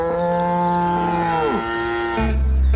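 A cow lets out a long, loud moo with a steady droning tone that bends and drops near its end, followed by a low rumbling shift; no one speaks.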